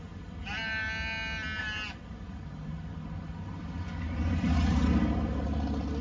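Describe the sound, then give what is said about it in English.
A single loud, wavering bleat from a sheep in the back of a truck rises over a steady low engine rumble, which swells as the truck seems to accelerate afterward. “The sheep is in the back of the truck being led by the shepherd, okay?”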